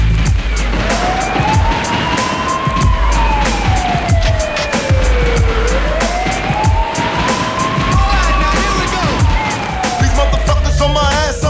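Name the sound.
police sirens wailing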